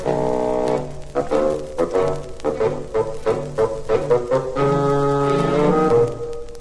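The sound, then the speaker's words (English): A bassoon, representing the character Grandpapa, plays a gruff, low melody: a held opening note, then a run of short detached notes rising and falling, ending on longer sustained tones over soft accompaniment. “Grandpapa is an old bassoon.”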